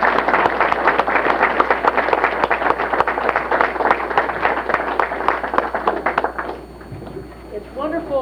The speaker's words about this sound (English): Well, I would like a round of applause for this part of the panel, and then we'll move to the, we'll move to the next generation will show us a new way of presenting this. So a round of applause.